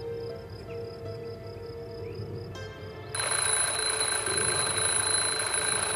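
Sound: alarm clock ringing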